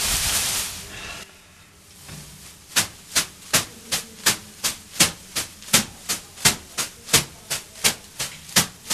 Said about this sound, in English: To get the aroma smacking me gently with leaves. This is to help with lymphatic drainage. Lymphatic drainage, exfoliation, just gentle massage as well, muscle ache, muscle pain, muscle recovery.